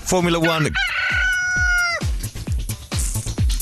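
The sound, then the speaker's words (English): A cockerel crow sound effect: one loud, long drawn-out harmonic call lasting about two seconds, followed by a string of short, sharp knocks or clatters. “It's an animal sound effect. What animal? A chicken. The Italian Grand Prix is crucial for Jensen. It's a cockerel.”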